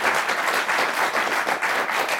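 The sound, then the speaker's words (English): Steady applause from a group of people, a dense, continuous patter of many hands clapping at once, fairly loud, with no voices standing out. “Oh, a little applause there.”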